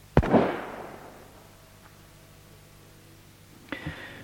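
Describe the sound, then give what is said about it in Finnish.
A loud gunshot from a firing squad executing three people cracks out and rings off in a long echoing decay, followed a few seconds later by a second, quieter burst of shots. No voices are heard. “Sitten kuuluivat laukaukset, ja nuo kolme menivät Jeesuksen luo.”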